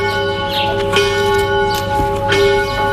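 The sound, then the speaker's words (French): Church bells of Sobgelagos, an Armenian church in Turkish Kurdistan, ring out together, their sustained metallic tones layering into a dense, resonant wash with repeated strikes, fairly loud and reverberant, with no voices. “Et fait exceptionnel, les cloches résonnent de nouveau.”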